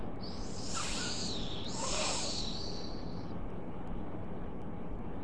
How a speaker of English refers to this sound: And a snake hisses.